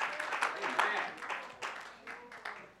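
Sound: audience clapping hands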